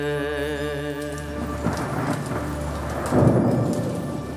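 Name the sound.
rain with thunder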